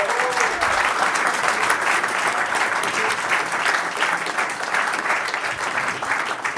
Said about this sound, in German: Damit sind wir mit Runde 1 durch. Und genau, wir hätten gerne mal einen riesigen Applaus für alle Teilnehmer.